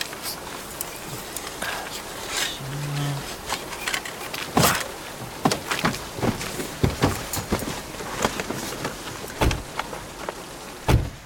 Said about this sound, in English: Well, I'm not taking any chances. Can you get the door open? Fine.